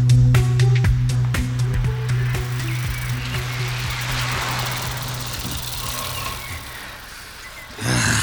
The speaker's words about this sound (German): Ach, Fahrradfahren. Nächstes Mal nehmen wir das Auto, Kollegen.